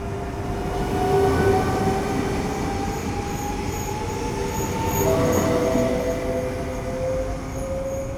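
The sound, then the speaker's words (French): A long freight train rolls steadily through the railway station of Vienne, its deep continuous rumble layered with drawn-out metallic wheel squeals that rise and fade, with no voices present. “De longs convois traversent la gare de Vienne chaque jour, alternant avec les TER et les trains voyageurs de passage.”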